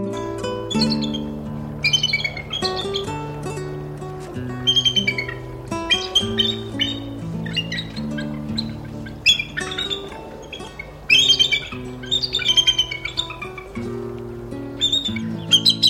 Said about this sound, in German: Das war der Weißkopfseeadler.